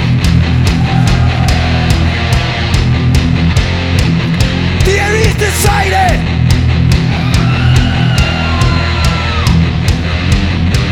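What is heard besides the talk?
concert crowd screaming loudly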